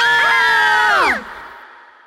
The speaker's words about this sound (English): This time they all screamed.